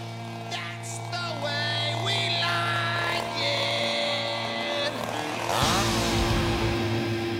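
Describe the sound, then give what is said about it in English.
A chainsaw engine runs loud for several seconds, its buzzing drone rising and falling as it revs, then surging into a rougher burst near the end, with no voices. “Leave the chainsaw home, though.”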